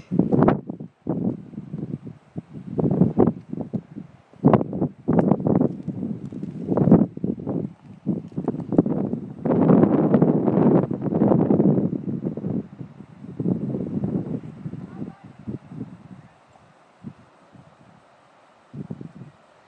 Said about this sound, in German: Das Rauschen, was ihr jetzt eben gehört habt, das war das Meer.